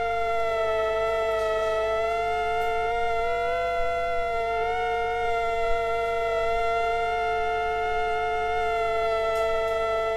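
Two mosquitoes of the same form, placed within a few centimeters of each other and recorded with a microphone, whine together, their wingbeats forming a steady, high-pitched buzzing drone of layered tones that waver slightly and seem to blend in harmony, continuous throughout with no voices.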